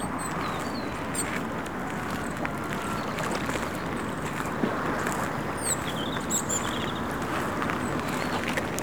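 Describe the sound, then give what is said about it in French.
A steady rumble of cars passing about 400 metres away fills the background as a constant wash of noise, with birds chirping faintly on top and no one speaking. “Des bagnoles qui passent à 400 mètres de moi.”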